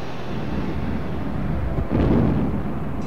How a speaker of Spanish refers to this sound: Durante el evento y en el centro de la cancha fueron colocados globos con gas helio. Cerca de ellos, las jóvenes porristas tomaron sus lugares, cuando de pronto una fuerte explosión ocurrió.